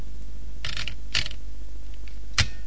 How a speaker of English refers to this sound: Listen, is that a telephone? No, it's not. What is it? It's a typewriter.